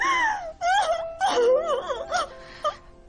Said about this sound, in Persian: … گریه میکنی؟ چی دختریه اینقدر ناراحت شدی؟